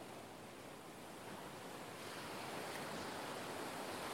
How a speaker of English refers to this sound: Hear the waves, feel the sun, breathe in and out.